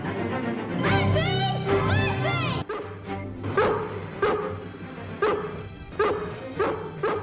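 A dog whines and yelps in high, wavering cries, then breaks into a steady run of loud barks repeating about once a second over a low background rumble.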